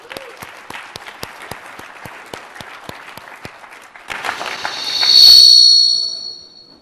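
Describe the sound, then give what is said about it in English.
Audience applause with sharp, evenly spaced claps standing out at first, then swelling into a louder wash of clapping topped by a shrill whistle before fading away. “I think that's worthy of an applause.”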